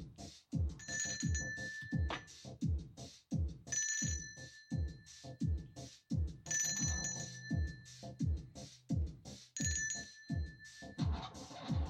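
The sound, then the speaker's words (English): A telephone ringtone trills in four evenly spaced bursts, each lasting a couple of seconds, over a steady thumping low beat that runs throughout. No one speaks. “There could be a phone ringing.”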